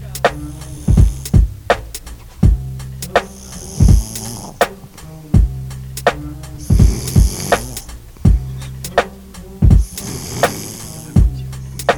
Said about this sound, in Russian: ты чё храпишь?